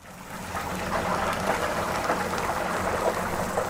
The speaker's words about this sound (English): Chicken coated in a batter of secret spices sizzles in oil. At the Mr. Big Stuff Eatery, even the squares of macaroni and cheese, known as mac and cheese, are deep-fried.